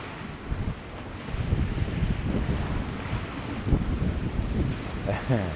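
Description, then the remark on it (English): Rough sea surf churns and surges into a rocky crevice, swelling up a level difference of about 9 to 10 feet and emptying back out again, with bursts of rushing water and spray over steady wind buffeting the microphone, fairly loud. “It swells right up at the crevice and then empties back out again.”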